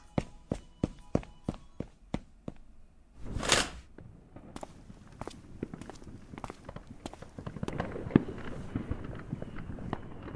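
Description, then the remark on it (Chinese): A rapid string of sharp firecracker-like bangs, then a rising whoosh of a rocket launching, followed by dense crackling and popping bursts as someone sets off fireworks. “哇，真的有人在放烟花哎，好漂亮啊！”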